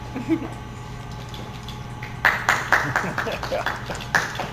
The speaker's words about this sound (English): Congratulations. There was three of us. Three of us in the courtroom. That one clap was a third of the crowd.